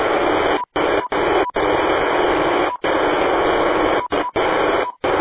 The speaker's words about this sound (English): But it's definitely an RF signal. It could be a digital signal. I'm not sure if anybody else recognizes what it sounds like, but what it might be. But it's definitely an RF signal. It's not echoing.